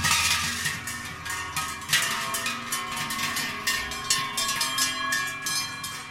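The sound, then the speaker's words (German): Metal cowbells clank and jangle in dense, overlapping bursts, a bright rattling clatter that rises and falls as they are unloaded from a trailer in Oberwil im Simmental on 8 June, the day the cattle are driven up to the alpine pasture. No one speaks. “Kuhglocken werden vom Anhänger gepackt.”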